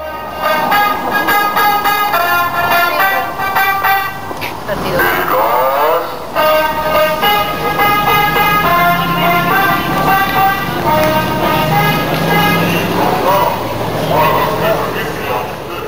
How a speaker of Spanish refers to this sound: El sonido del camión de gas en Valparaíso, Chile. La grabación fue tomada en Plaza del Descanso, muy cerca del Cerro de la Concepción.